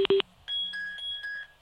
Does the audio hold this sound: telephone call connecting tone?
yes